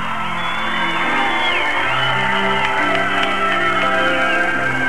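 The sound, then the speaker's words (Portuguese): A concert audience at a singer's show cheers loudly and steadily for five seconds as a security guard lifts a girl over the barrier; a dense roar of voices laced with shrill screams and whistles that rise and fall above the crowd. “E a reação da plateia é incrível.”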